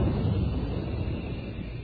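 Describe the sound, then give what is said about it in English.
A steady, forceful hiss of pressurized moisture spray rushes out without a break for about two seconds, holding an even loudness throughout, with a rough, low rumbling roar beneath it. The spray stands for Moisturize Rolly 903 cigarettes in an advertisement. “That jet of fresh pure moisture stands for the new, different Moisturize Rolly 903.”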